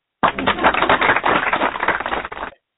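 A burst of applause sound effect: dense, crackling clapping that holds at a steady loud level for about two seconds, then cuts off abruptly, with no voices over it.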